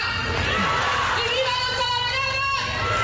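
A large crowd shouts "Viva Talavera" together in unison during the opening speech of the fair in Talavera. A loud, continuous roar of many voices mixed with cheers and whoops fills the whole moment without letting up.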